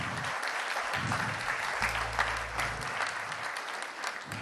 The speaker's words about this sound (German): Das tut gut, schon im Vorfeld Applaus zu kriegen.